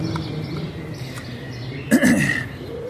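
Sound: birds chirping outdoors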